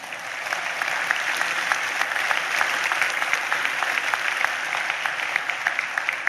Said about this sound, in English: Yes, you can clap for the veterans in the room.